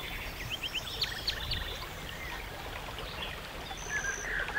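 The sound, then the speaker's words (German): Spring water murmurs and trickles in a steady, continuous wash, with a few faint bird chirps scattered above it. No one speaks. “Und im Raunen einer Quelle jubelt die Heimat, euer Ursprung, um euch an der Fülle des Geistes teilhaben zu lassen.”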